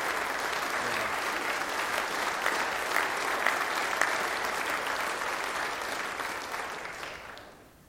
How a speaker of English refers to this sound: I think it's appropriate that we give them our support with a round of applause, perhaps.